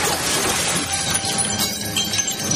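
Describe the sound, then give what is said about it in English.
Loud glass shattering in a sustained crash, with bright tinkling shards and debris clattering continuously for a couple of seconds. No voices. “I love glass breaking”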